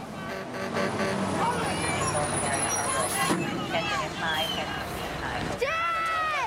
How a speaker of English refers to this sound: A fire truck powers towards the scene, passing a fleet of ambulances, and heads onto the bridge, having to stop short of the plane